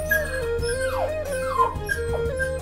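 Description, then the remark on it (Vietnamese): An agitated dog gives a few whining, yelping cries that swoop downward in pitch, fairly loud, over a steady tonal background hum with no talking. “Chó tức giận vì không hài lòng với vị trí của mình, đã cắn thỏ và bị trừng phạt đứng vào vị trí áp chót.”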